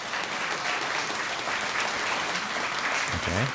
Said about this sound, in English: of a couple hundred people here at CSPS in Cedar Rapids, a little bit of a clapping poll. Clap if you are an active Facebook user. Wait, by that, I mean you use it perhaps at least once a day or once a week. Clap if you're an active Facebook user.